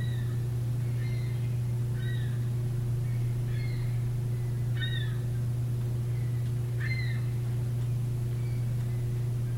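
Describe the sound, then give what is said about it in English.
Birds call outside at twilight in short, scattered chirps, repeating every second or so over a steady low electrical hum. “Maybe opening our hearts to the birds that we hear outside.”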